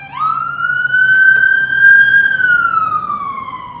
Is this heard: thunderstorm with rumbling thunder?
no